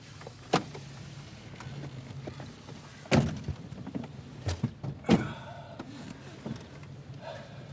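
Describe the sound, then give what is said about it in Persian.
Someone climbs into a car: a sharp click, shuffling and rustling, then several solid door thumps, the heaviest a close, firm slam, over a low steady engine-like hum. “پس بشین تو ماشین.”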